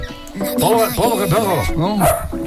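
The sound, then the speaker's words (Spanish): A dog lets out a quick run of loud, whiny bark-like yowls, each rising and falling in pitch, as if greeting in its own language. “Mira, está perro. Saludando en su idioma.”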